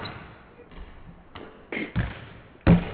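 A basketball is dribbled, bouncing with several dull, irregularly spaced thuds on a hard floor. The final bounce is the loudest, over a faint background murmur.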